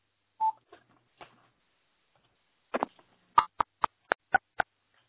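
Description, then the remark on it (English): A rapid run of short electronic beeps from a phone keypad, about six evenly spaced tones after a few softer clicks and rustles, clear with no talking; keys pressed on a phone to mute or unmute it. “But if you can't mute it from your phone, you can press *6 to mute and #6 to unmute.”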